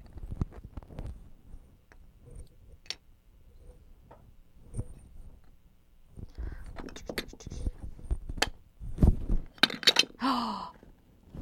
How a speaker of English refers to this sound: You knocked Mama's tower over.